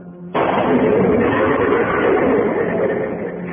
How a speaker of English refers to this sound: The car went up in a blast of powder and gasoline, and she moved back towards the other.